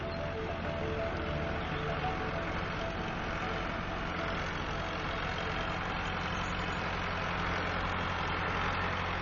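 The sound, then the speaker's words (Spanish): A tractor engine runs steadily throughout among fields, a loud, continuous low mechanical drone with a droning hum and rumble that stays constant and unbroken. “Sin ser visto y aparentemente impávido ante el ruido de un tractor.”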